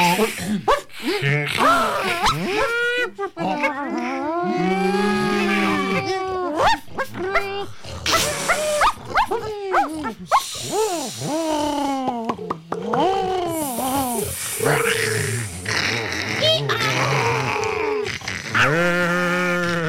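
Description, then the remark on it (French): A voice imitates an elephant with loud, swooping wails and trumpet-like blasts, repeated again and again, broken by breathy hisses and short gasps. “C'était quoi ça? L'éléphant.”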